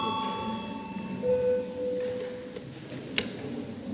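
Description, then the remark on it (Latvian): A ringing electric bell tone with bright overtones sounds at the start and fades, followed by a steadier mid-pitched tone for about a second over a murmuring chamber, then a single sharp click. “Lūdzu zvanu. Balsosim par 74.”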